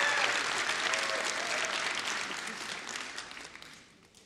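An audience applauds with dense, steady clapping that stays strong for a few seconds, then gradually thins and fades out.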